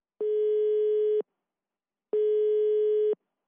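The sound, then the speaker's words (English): A telephone ringing tone of a call to Jorge Drexler's home in Madrid sounds twice, each steady electronic beep lasting about a second with a pause between, clear as if heard through the handset, no voices. “Camilo talked to him by phone from Drexler's home in Madrid.”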